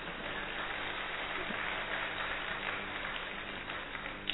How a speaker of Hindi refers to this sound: Operation करवा लिया, काम हो गया। बजाओ ताली कोई बात।